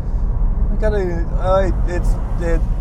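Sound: car engine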